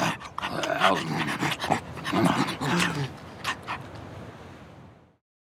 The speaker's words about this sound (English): After the sled dog ride, we stop to feed the dogs. They're very hungry.